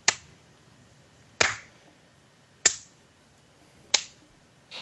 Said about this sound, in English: Really? Instead of a slow clap? I could do slow clap.